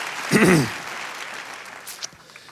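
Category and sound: crowd, audience clapping hands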